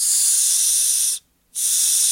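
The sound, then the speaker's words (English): A breathing machine gives off a steady, airy white-noise hiss that cuts out for about a third of a second, then resumes just as loud. No one speaks. “Is the machine loud? The machine itself? The machine is like this.”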